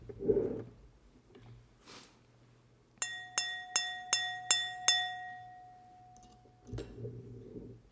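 At a Thanksgiving dinner table, a fork taps a glass six times in quick, even succession, each clear ringing clink sustaining into a long bright tone that fades out, with soft murmuring sounds before and after.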